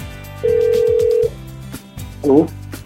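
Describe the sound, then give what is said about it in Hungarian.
A telephone ringback tone on an outgoing call being dialed sounds once as a steady, fairly loud beep lasting nearly a second, over a soft background bed, followed a moment later by a brief warbling electronic blip. “most le is nyomom a gombot Gellért, és remélem a sikerül kapcsolatot létesíteni. Hát közben csöng a telefonunk.”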